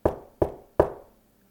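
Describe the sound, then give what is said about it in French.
Three firm knocks on the front door of a house on the next street, evenly spaced, each with a short resonant decay, followed by quiet. No one speaks. “Elliot tape à la porte.”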